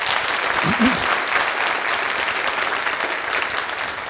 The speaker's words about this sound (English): Why don't we give these guys a warm round of applause?